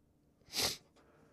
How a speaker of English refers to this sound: Sorry for the sniffling, guys. I'm trying.